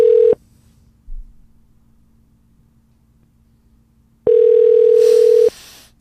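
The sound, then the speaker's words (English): A telephone ringback tone: a steady, loud electronic hum cuts off quickly, then after about four seconds of quiet line it sounds again for just over a second. No one speaks. “It's ringing.”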